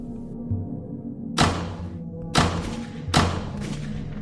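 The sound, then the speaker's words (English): Three muffled gunshots thud in quick, uneven succession, each a dull booming hit with a short echoing tail, heard from behind a closed door over a low steady hum. “Then I realised it was gunfire. All behind the closed door.”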